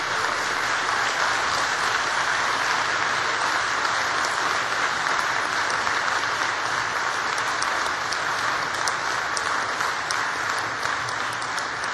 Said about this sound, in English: In fact, I want you all, graduates of 2015, to stand up, please all stand up, so that you can turn around and give a big round of applause to all the people who've supported you.